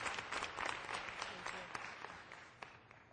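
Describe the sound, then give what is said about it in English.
An audience applauds the patients from Zimbabwe for their brave work, many overlapping hand claps forming a dense, crackling wash of sound that gradually tapers off over a few seconds. “And I just want to applaud the patients from Zimbabwe for doing brave work.”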